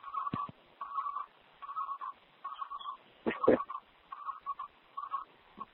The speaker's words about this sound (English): You hear the nice birds? It's like a tropical forest.